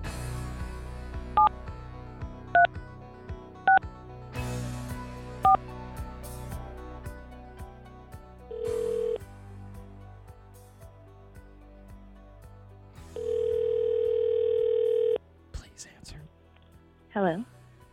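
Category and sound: signal or alarm, telephone number being dialed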